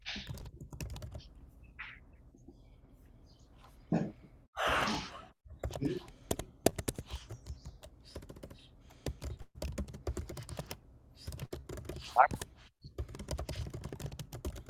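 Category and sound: household object, computer keyboard typing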